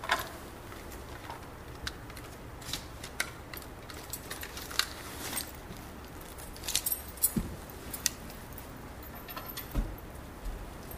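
Rummaging through small objects while searching for a pair of glasses, with irregular clicks, taps and light jangling clinks scattered over about eleven seconds; no one speaks.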